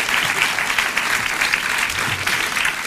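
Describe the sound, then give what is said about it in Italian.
A steady burst of audience applause for writer Concita De Gregorio at a talk about her Feltrinelli novel Nella notte, many hands clapping densely and evenly at a fairly loud level throughout, with no talking over it. “Vi prego di pensare di capire che non sono parole di circostanza, veramente contento di parlare con Concita De Gregorio, a cui consiglierei un applauso.”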